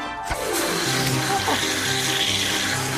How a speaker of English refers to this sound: I was hoping for just a gentle massage. First, the cold shower.